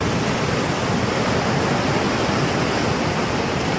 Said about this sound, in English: Number two is like ocean waves or rain sound effects.